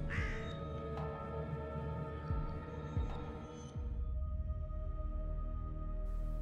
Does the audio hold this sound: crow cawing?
yes